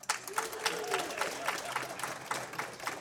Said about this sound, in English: Tepid applause right there.